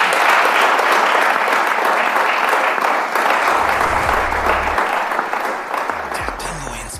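Steady, dense applause from a crowd, loud and sustained for several seconds, a continuous wash of many hands clapping that thins slightly toward the end.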